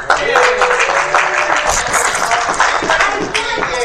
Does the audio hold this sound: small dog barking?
no